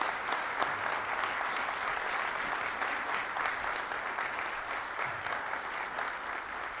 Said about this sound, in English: Thank you. Can we get a round of applause for our final panelists, please?